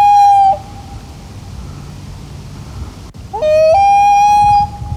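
Two long, wailing loon calls, loud, each rising to a sustained high note, separated by a quieter pause where faint low whale sounds murmur in the background.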